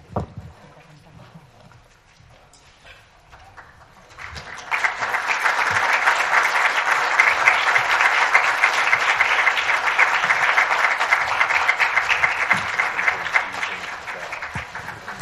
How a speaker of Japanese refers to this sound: それではこれで記者会見を終了させていただきます。どうぞもう一度拍手でお見送りいただければと思います。